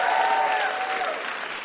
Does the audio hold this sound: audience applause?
yes